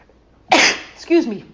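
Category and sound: human body sound, sneeze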